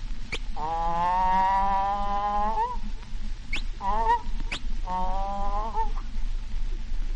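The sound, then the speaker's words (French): A voice imitates the call of a Madagascar bird: three loud, nasal, honking cries, a long one, a short one, then a medium one, each set off by a sharp click. “Un oiseau de Madagascar.”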